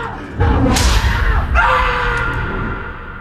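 A heavy door on a timer slams shut at 3 o'clock with a loud, booming thud, followed by a second sharp impact and a lingering low rumble that slowly fades. No one speaks.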